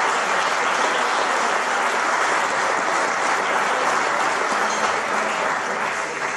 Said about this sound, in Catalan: Per tant, doncs, igualment un aplaudiment per ells perquè s'ho mereixen tot i que no hi siguin.